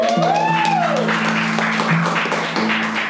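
Steady audience applause welcoming a guest on the show Infames Perfiles, a dense wash of many hands clapping that stays loud throughout, with a sustained musical tone and a rising-falling sweep sounding underneath.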